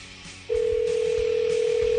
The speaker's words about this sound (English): Looks like we are calling Corona. Oh, okay. All right. So if your phone's ringing in Corona, pick it up.